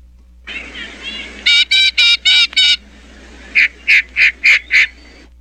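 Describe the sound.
A voice imitates duck calls: a few soft quacks, then two bursts of five loud, evenly spaced honking quacks, clear, with no other talking.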